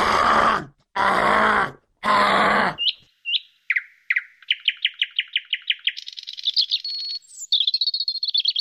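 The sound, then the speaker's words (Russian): A person imitates a nightingale's bubbling song: three throaty, gurgling bursts, then a run of rapid, high, whistled chirps and trills rising into a sustained warbling, fairly loud. “Ну, ты знаешь, да, что у соловья вот есть эти бульканья, вот эти все, что-то характерное, это, которые никто, вроде говорят, никто якобы спеть не может, не знаю, может быть, кто-то и может.”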